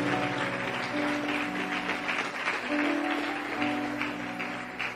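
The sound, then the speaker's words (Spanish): An audience at a Spanish-language sermon applauds the Lord loudly and steadily for several seconds, a dense crackle of many hands, while sustained keyboard chords hold underneath. “Oh, dele ese aplauso al Señor fuerte.”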